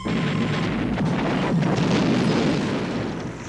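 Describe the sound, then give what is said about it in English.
A loud explosion set off inside a movie theater during a film shoot, its roar filling the whole span, a dense, rumbling blast of noise that holds steady for several seconds before easing slightly at the end, with no voices. “But ultimately, you watch this explosion, you're like, I can't believe there's anything left of this movie theater.”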